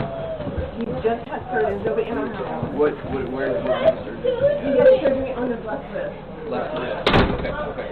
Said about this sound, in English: In fact, the FBI just kicked in the door of a 22-year veteran. Well, here's the video.